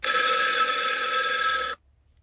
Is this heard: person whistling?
no